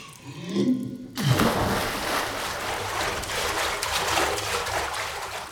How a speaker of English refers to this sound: We'll be over there in a bit. soon as the water finishes draining.